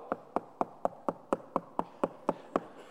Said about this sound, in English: Like those kids last Saturday night after church service on Halloween who were coming to my house for candy and I was all out. "…" but I'm all out of candy.